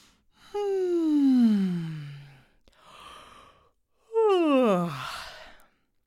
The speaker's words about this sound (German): Vorgehen: Stehen oder sitzen Sie locker und aufrecht. Räkeln und strecken Sie sich genüsslich in alle Richtungen und gähnen Sie herzhaft.